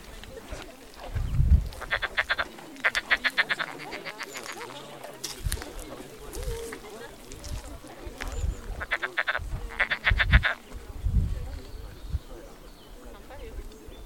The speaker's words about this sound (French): Ce que vous venez d'entendre avec le croassement des grenouilles, c'est le son de la biodiversité de la réserve du Pinail.